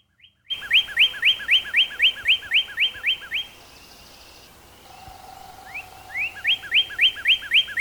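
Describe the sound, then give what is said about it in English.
A male northern cardinal sings loud, clear whistled phrases: a quick run of about ten repeated slurred notes, a short pause with faint background birds, then another rapid series starting up. “that same adrenaline rush is also experienced by female cardinals when they hear the male singing that”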